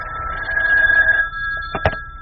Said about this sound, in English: Excuse me. The phone.